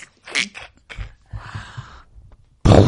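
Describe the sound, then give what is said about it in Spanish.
Soft, scattered low thumps and rumbles give way to a sudden loud, broad crack of thunder with its echo, played from a tape, that booms on to the end without fading. “¡Uy, qué trueno! Es una bomba. Este es el eco.”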